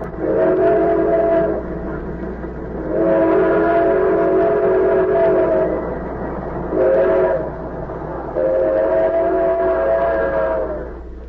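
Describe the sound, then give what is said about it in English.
A train rumbles steadily along the tracks through the night while its horn sounds in four loud, drawn-out blasts, the longer ones separated by short pauses and one brief toot in between. “The train roared through the night”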